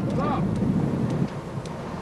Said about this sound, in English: but the sound of the wind, like the bad news the man is delivering, is real and powerful.